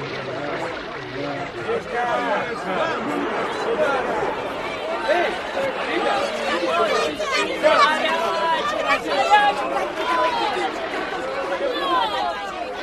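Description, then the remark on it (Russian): A steady babble of many overlapping voices of people fills a busy harbor at lunchtime, after work has stopped, with the splash of sea water mixed beneath the chatter at an even, moderately loud level throughout. “Теперь голоса людей и плеск моря стали слышней.”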